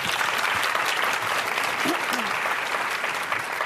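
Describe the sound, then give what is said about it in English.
An audience applauds steadily, a dense, even patter of many hands clapping at constant loudness for several seconds, with a faint voice briefly audible beneath it. “So one more round of applause for me.”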